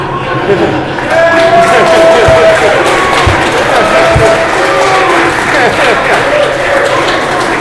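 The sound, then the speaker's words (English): A loud, sustained crowd reaction: an audience booing in a dense, continuous wash of voices, with a few sharp thumps and scattered shouts mixed in. “Is it booing baseball or booing me for criticizing Reagan?”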